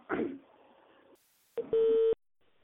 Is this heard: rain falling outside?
no